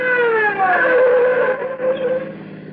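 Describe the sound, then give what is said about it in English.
A police patrol car siren wails steadily on Old Mamaroneck Road, its tone sliding slowly up and down in pitch, loud and unbroken over a low rumble, then easing slightly toward the end. “Hear that? Patrol car?”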